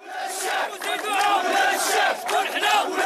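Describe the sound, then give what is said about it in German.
A crowd of protesting Danone Morocco employees shouts together, fearing for their jobs, in loud, continuous waves of overlapping voices, rising and falling with raised chant-like cries throughout. “Sie schreien, weil sie um ihre Jobs fürchten. Hier protestieren Mitarbeiter von Danone Marokko.”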